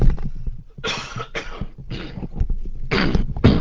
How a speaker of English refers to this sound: Well, just going to have a little cough here, excuse me.